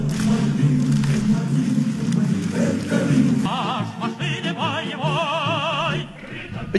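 Music played on air at a steady, fairly loud level: a dense, full accompaniment at first, then a wavering melodic line with strong vibrato rises above it for the last few seconds.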